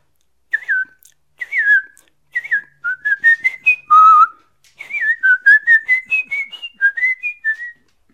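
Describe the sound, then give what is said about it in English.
A person whistles the chorus of a song alone, without words, a bouncy, tuneful melody, clear, with short phrases of gliding and stepping notes and brief pauses between them. “Here comes the chorus, and you can whistle to it. Here's the chorus without words, 'cause this song is for the birds.”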